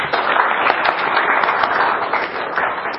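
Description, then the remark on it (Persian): An audience at a lecture applauds to welcome the next speaker, a dense wash of many hands clapping at even loudness throughout, with no voices rising above it. “تشویق بفرمایید.”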